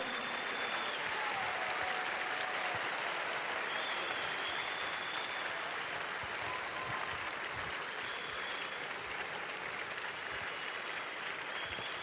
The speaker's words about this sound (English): Please keep clapping for them.